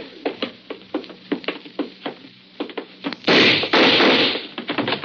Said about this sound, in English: I got the door open.